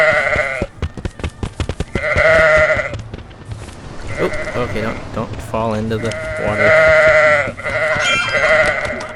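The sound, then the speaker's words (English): Several loud, wavering goat bleats in a video game ring out one after another, overlapping a person talking briefly at the start amid other game sounds. “Alright, where are the... goats?”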